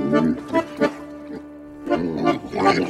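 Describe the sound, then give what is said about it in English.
Several loud pig grunts and snorts come in short bursts, then a brief pause before another cluster of rough, nasal oinks. “And the captain is a pig.”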